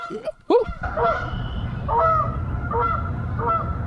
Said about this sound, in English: Can you hear the geese? Woo!